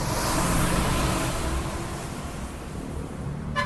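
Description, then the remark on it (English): A loud diesel engine of a jeepney, a brightly coloured Manila bus, rumbles and revs in city street traffic, its heavy low growl holding steady before easing slightly, with a broad wash of road noise behind it. “Jeepneys are the most popular form of transport for Manila's poor, but these brightly coloured buses also leave vast plumes of diesel smoke in their wake.”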